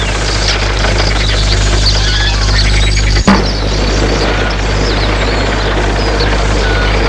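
A car drives out of a small town, its engine holding a steady low drone over constant road noise, with one sharp knock or thump about halfway through and no voices.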